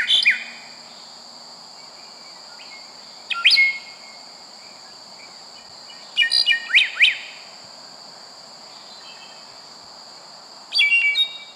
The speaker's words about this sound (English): And sometimes it's good for us to slow down and listen to our favorite bird song.